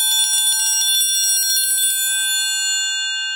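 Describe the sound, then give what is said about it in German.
A triangle tremolo, played by striking the two adjacent sides in one corner with a beater as fast as possible in alternation, producing a shimmering, fast-pulsing metallic ring for about two seconds before fading into a sustained, bright resonance. “Dafür sucht man sich eine Ecke des Instruments aus, in der man dann die zwei nahe beieinander liegenden Schenkel des Dreiecks mit dem Schlägel möglichst schnell nacheinander anschlägt”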